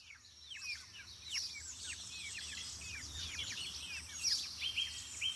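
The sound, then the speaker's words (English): A busy chorus of birds chirping and twittering outdoors, with many overlapping quick calls throughout, over a low steady background rumble. No one speaks. “We try and get out maybe in nature a little bit and try and be in a place where we just can hear the birds and hear the wind.”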